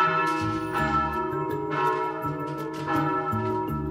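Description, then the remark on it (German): Church bells in Marz ring in a full, overlapping peal, heard from up at the church, their strikes recurring roughly once a second with long shimmering overtones that sustain loudly throughout, with no voices present. “Und von oben haben die Glocken noch schöner geklungen. So hat sich das Ganze nämlich angehört.”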